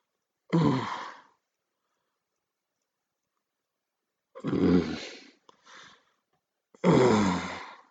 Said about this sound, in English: What's that? Yeah, you like it when I growl.